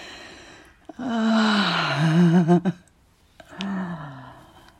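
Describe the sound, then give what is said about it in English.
A man panting heavily: two long, breathy voiced exhales with a low moaning tone, the first louder and wavering, separated by a brief quiet pause. No words are spoken. “He's panting.”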